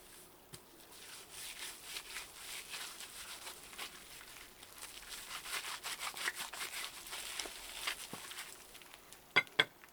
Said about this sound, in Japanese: では、まずは背中からゴシゴシと洗わせていただきますね。